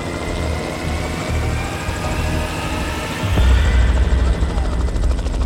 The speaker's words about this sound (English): So Melbourne police arranged for a helicopter to go out and survey the land.